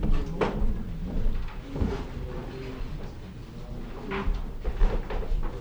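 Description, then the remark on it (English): Chairs scrape and knock as they are taken from the front of a slideshow area and slid across the floor, with a few distinct wooden clunks amid a steady background murmur. “We're stealing chairs from the slideshow, so you might be able to slip one out from the front of the slideshow.”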